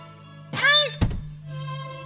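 A sudden dull thunk of someone bumping into a door, heard right after a brief high-pitched vocal exclamation, with a steady low hum throughout.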